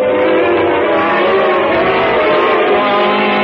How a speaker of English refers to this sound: Train!